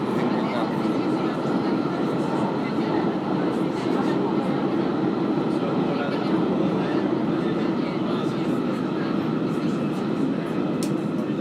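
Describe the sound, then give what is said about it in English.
A Milan metro train rumbles steadily along the tracks, a loud continuous roar with rattling and clatter that never lets up, heard from inside the carriage. “Now I've pulled this out, it's bound to be our station next.”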